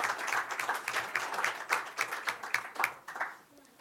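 A small crowd applauds, dense overlapping hand claps at a steady moderate volume that taper off and thin out toward the end.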